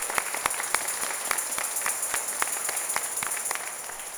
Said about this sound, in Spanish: Un aplauso a Cristo por estos nuevos confirmados. Bendito sea Dios.